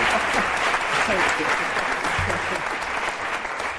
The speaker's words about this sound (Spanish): Es el gran maestro Pepín Tré. Otro aplauso para él.